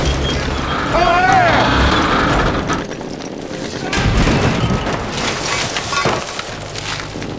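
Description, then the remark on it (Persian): Dense battlefield din of gunfire and explosive booms, with sharp cracks and crashing debris layered over rumbling blasts, loud and continuous, while shouted voices cut through the chaos. “پوشش آتش، پوشش آتش، به شلیک ادامه بدید، آتش بار زدین ها؟”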